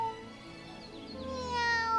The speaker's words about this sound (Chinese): 哎，你们听，有一个好像一直喵喵叫的声音。哎， 这个声音听起来，哎呀，这只猫咪好像很虚弱的样子。